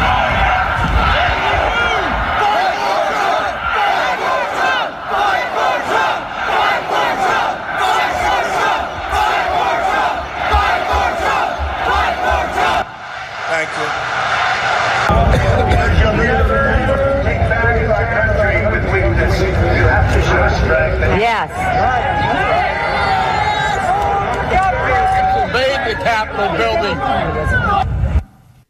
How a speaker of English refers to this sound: Storm the Capitol, invade the Capitol. Here are both of those moments, but from the crowd's perspective.